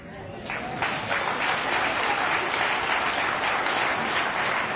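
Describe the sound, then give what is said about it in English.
An audience claps steadily for about five seconds, a dense, even wash of many hands that starts a little softer and quickly swells to a sustained, fairly loud level. “You don't have to clap for Ratzinger.”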